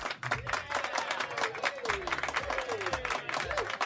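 A burst of steady, dense applause from a group, many hands clapping at once throughout, with some voices cheering and whooping over the clapping, welcoming a presenter on a school radio show.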